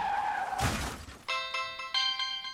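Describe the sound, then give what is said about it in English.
A short tire squeal gives way to a loud, crunching car crash with breaking glass as a car hits a deer and goes into a ditch, followed by bursts of steady, high electronic tones pulsing on and off. “Mom, I just hit a deer and went into the ditch.”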